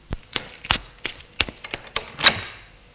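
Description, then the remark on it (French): A woman goes down a staircase: a quick, fairly steady series of about ten hard taps and thuds over a few seconds, with no voices. “Elle descend les escaliers.”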